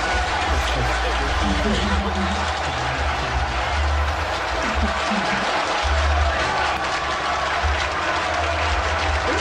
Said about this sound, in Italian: Bravo! 92 minuti di applausi.